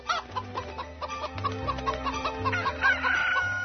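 Hens cluck in quick, choppy bursts throughout while a rooster lets out a higher, drawn-out crow near the end, all over a low steady hum.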